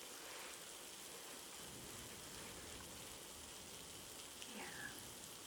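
Steady rain from a storm patters and hisses outside in an even, continuous wash, soft and constant throughout without any voices.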